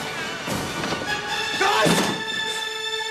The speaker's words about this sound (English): Nick bursts through the stairwell door.